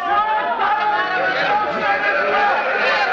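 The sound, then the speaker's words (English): A loud crowd in the street of many voices shouting and clamoring at once, angry that the Associated Press had not carried the news of the armistice; a dense, agitated roar of overlapping yells that holds steady with no single voice standing out. “Meanwhile, the crowds in the street, learning that the Associated Press had not carried the news of the armistice, became angry.”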